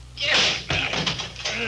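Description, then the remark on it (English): A locked door bursts open with a heavy thud and a rough, splintering crash, followed by a clatter and scraping noise, with faint voices in the background. “She's given away.”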